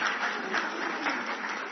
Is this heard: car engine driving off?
no